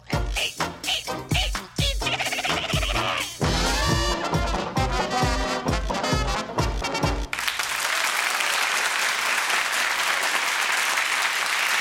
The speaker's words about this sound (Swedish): Tack så mycket, varma applåder som alltid när det har blivit dags för På minuten med Pia Johansson.